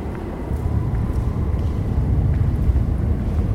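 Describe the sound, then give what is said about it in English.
A deep, steady rumble of an Overground line train, formerly the East London line, running beneath the feet where Isambard Kingdom Brunel nearly drowned, a continuous low roar holding an even loudness throughout with no voices over it. “The train is beneath our feet.”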